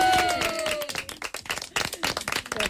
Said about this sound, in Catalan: Fort aplaudiment.